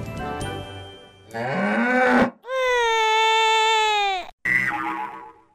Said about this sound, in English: So, first of all, can all the players test their buzzers?